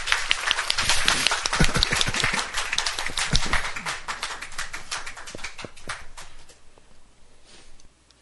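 An audience applauds with dense, overlapping claps from many hands, loud and steady for several seconds before thinning out and fading away near the end.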